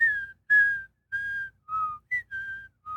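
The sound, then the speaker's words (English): A high, pure piccolo melody of seven short, whistle-like notes that step up and down in pitch, each held briefly with small gaps between, at moderate loudness, from the soundtrack of The Empire Strikes Back, playing over the brass at the opening after the title crawl as the camera pans down to a Star Destroyer. “But over the top of it, this piccolo is going.”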